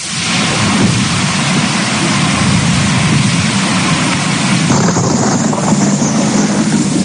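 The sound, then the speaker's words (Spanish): Steady, heavy rain hisses throughout while deep thunder rumbles continuously underneath, loud, with the texture of the downpour shifting partway through: a strong storm with intense lightning in Extremadura, Spain, on a Saturday night, dropping 20 to 30 liters per square meter. No voices are heard. “Fuertes tormentas con intenso aparato eléctrico y que arrojaban entre 20 y 30 litros por metro cuadrado en apenas unas horas en diferentes zonas de la región y entre la madrugada del sábado al domingo en diferentes comarcas.”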